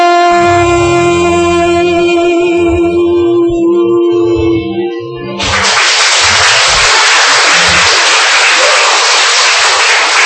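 A song with sustained sung tones and a steady bass line fades out, then loud, dense applause, dedicated to God, bursts in and continues evenly for about five seconds without a break.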